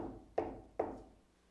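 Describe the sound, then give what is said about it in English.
Two firm knocks on a door, about half a second apart, each with a short hollow ring that fades quickly. Nothing else is heard, and no one speaks. “I knocked half a second ago.”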